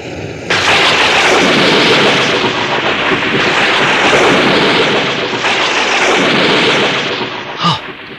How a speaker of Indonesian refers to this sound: Empat buah batu besar itu hancur berkeping-keping dalam waktu yang hampir bersamaan.